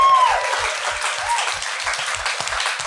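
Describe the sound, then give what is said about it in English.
An audience breaks into loud, sustained applause for the Navarra Media backstage crew, a dense wash of many hands clapping that holds steady throughout, opening with a brief high whistle-like tone and soft low thumps underneath. “Give them a big round of applause, actually.”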